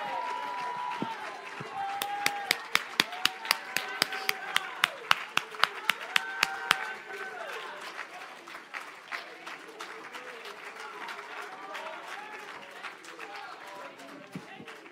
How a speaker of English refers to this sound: Let Him see you clap your hands, all ye people. Shout unto God with a voice of triumph.